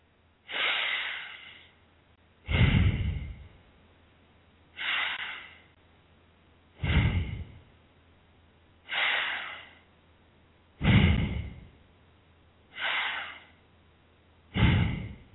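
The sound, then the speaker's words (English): Slow, deep breathing: four full cycles of airy inhales filling the lungs entirely, each followed by a heavier, rushing exhale emptying them completely, in a steady rhythm with brief pauses and no talking. “The key to doing long deep breathing is to fill the lungs entirely on the inhalation, and then empty them completely on the exhalation.”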